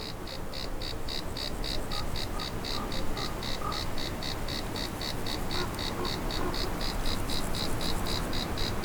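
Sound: cicadas chirping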